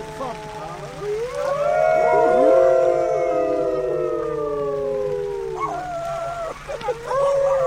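A chorus of several wolves howling together at night in the mountains, made to howl by people, long overlapping wavering tones rising and falling, with a faint steady hum underneath and no talking.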